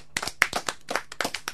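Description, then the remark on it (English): Audience applause: a brief burst of sharp, crisp hand claps in an uneven, fairly quick rhythm, moderately loud, with no voices over it. “Once again, a round of applause, I think, there.”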